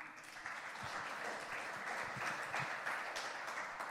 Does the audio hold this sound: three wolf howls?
no